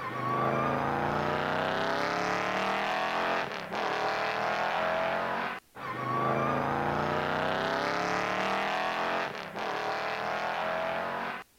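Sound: car driving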